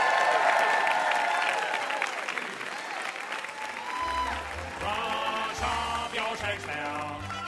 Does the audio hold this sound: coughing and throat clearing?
no